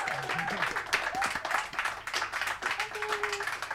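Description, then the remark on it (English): An audience applauds the Equitopia Orchestra from Vida with dense, steady clapping that fills the whole clip, accompanied by faint crowd voices and a few scattered cheers. “Ladies and gentlemen, another round of applause.”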